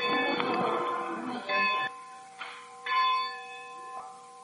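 A church bell rings out in several clanging strikes about a second apart, each tone humming and overlapping the next as it fades, with no voices.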